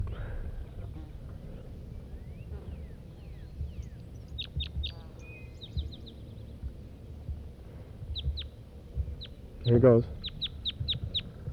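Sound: red crossbill calls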